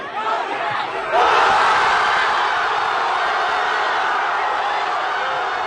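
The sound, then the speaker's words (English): Thousands of football fans in Madrid roar in a dense, sustained wall of cheering and shouting, celebrating Spain's 1-0 extra-time World Cup final win. The roar swells louder after about a second and holds steady throughout. “Some of the thousands of fans cheering on in Madrid after this nail-biting 1-0 win in extra time, breaking Argentinian hearts right around the world.”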